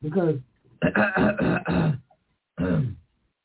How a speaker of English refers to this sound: Clear your throat before you read it.